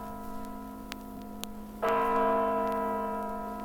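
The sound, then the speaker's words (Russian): The Kremlin clock on the Spasskaya Tower, the state's main clock, chimes: a few soft ticks over a steady ringing drone, then one loud bell stroke that rings on with rich, sustained overtones, slowly fading. “А вон те часы на Спасской башне. Главные часы государства.”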